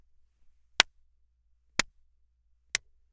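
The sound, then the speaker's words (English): Three sharp hand claps, evenly spaced about a second apart, each crisp and brief against a quiet background with faint low hum. No one speaks. “And now here are some claps.”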